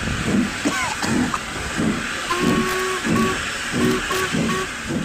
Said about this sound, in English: Record just as it's about to set off, and you'll get the real sound of the train setting off and everything